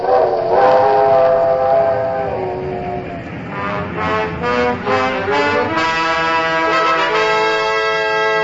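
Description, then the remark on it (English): An ammunition train rolls past while its whistle sounds in long, loud, sustained tones that waver and bend in pitch over a steady rumbling background, with no voices. “Nowadays, an Army marches on its ammunition trains.”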